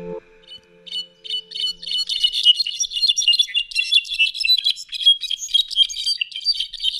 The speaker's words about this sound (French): Mon chant préféré, le solitaire à dos brun, Miadestes occidentalis.